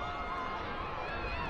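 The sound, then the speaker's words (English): The Delmarva crowd at a baseball game cheers for Sherwin, the team's big orange shorebird mascot, in a steady, even roar of many voices, a dense wash of sound that holds at one level for the whole moment without a clear peak. “They're cheering on Anthony Sherwin.”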